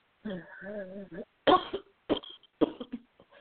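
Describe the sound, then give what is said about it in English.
A strained, voiced groan followed by three harsh coughs from a shivering woman in quick succession, each a sharp burst trailing off into rough, breathy rasps. “coughed again, closed her eyes as she began to shiver.”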